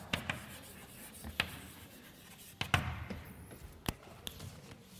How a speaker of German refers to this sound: Also ich schreibe jetzt was ganz Banales.